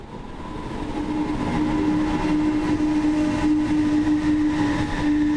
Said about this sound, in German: Andächtig lauscht Andreas Schorsch der Durchsage an Gleis 13 des Düsseldorfer Hauptbahnhofs